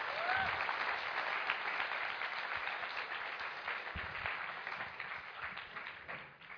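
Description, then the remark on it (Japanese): A crowd applauds steadily, a dense wash of many hands clapping at a fairly loud, even level that holds throughout before easing off slightly near the end. No one speaks over it. “皆さん、二人ともみんな拍手を伝えたい。”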